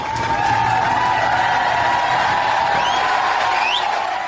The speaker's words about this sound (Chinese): 另外，居住在印度首都新德里的流亡藏人在地方西藏青年会的组织下，本周三17号晚上聚集在一起收看了美国之音就美国国会向达拉喇嘛颁发国会金质奖的现场直播。当布什总统亲自把金质奖授予达拉喇嘛的那一刻，在场民众鼓掌欢呼。